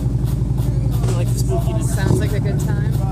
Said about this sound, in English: This dude, motorcycle goes. Sorry, I hate live motorcycles so much.